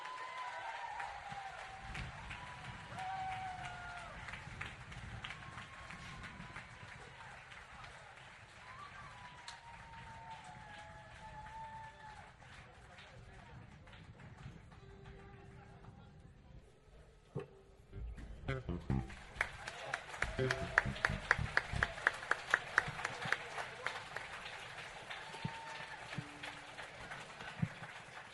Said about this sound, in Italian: Intanto accogliamo con un applauso l'ultimo ospite di questa sera.